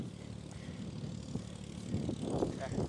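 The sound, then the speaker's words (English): A yellow farm tractor with a farmer comes over a hill in Christmas tree country, Allegheny County, North Carolina, its engine droning with a low, steady rumble that swells slightly as it approaches, with a faint voice murmuring over it toward the end. “Coming over a hill. Wonder what kind of tractor it is.”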